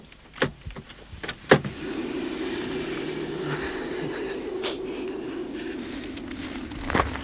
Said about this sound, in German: Ein Parkplatz zog sich länglich zu einem Aussichtspunkt hin. Hier parkte Peter den Wagen.